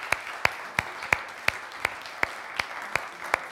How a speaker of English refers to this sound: As the children go out, who's involved with children work, either on a Sunday or through the week? Put your hand up. Can we give them a massive round of applause? Woo!